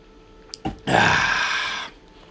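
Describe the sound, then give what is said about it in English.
Someone drinks water and swallows: a couple of quick wet clicks, then a loud, gulping rush lasting about a second before it goes quiet. No one speaks. “Grab some water real quick.”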